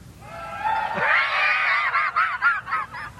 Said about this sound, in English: What did the people do when they gathered to the laying of the foundation? There were shouts of joy. What did that sound like?